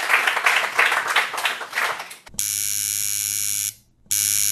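A couple of seconds of audience applause, a dense crackle of many hands clapping, then a loud, steady electronic buzzing tone that stops briefly and returns.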